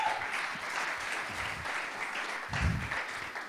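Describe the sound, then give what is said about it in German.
A crowd applauds steadily, a dense wash of many hands clapping at an even, sustained level with a slight swell near the end and no voices on top. “Einen herzlichen Applaus für Janis.”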